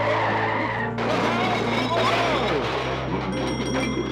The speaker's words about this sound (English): And for my finale, 15 pigs riding a 10-ton army lorry.